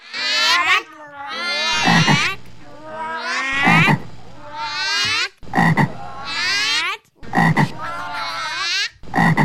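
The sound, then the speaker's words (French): A voice imitates a toad with a run of loud, strained croaks, about five drawn-out bursts separated by short pauses, rasping and wavering in pitch. “Et j'attends, comme les crapauds des contes de fées.”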